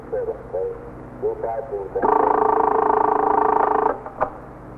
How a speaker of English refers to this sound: The stillness was broken occasionally by the hum of the switchboard or a call over KEA, the police radio.